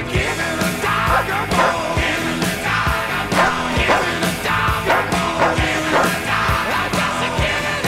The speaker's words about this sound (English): If you would like to see these two darling dogs who are here